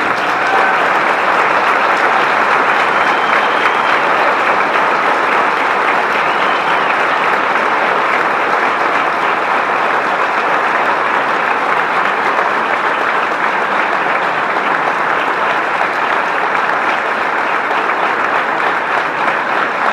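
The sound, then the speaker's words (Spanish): Sustained audience applause at a political event presenting candidate David Lallús for the June 4 elections fills the whole stretch, a dense, steady wash of clapping hands that holds loud and even without breaks, with no talk rising above it. “Si metemos otro aplauso.”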